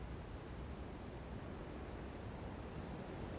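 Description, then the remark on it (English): A steady, soft wash of slow-moving river water, an even low rushing hiss with no breaks or splashes, fairly quiet and continuous throughout, with no voices. “The river moves sluggishly along these parts. At times, it's hard to even hear it.”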